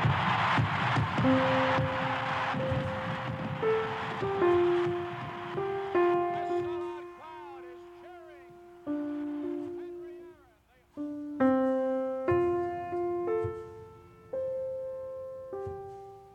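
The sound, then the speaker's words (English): A big stadium crowd roars and cheers in a loud, steady wash of noise as Henry Aaron rounds the bases after hitting the home run that makes him the all-time home run champion, with fireworks going off. A melody of sustained, organ-like notes plays over it, stepping up and down in pitch. “His teammates are at home plate, and listen to this crowd.”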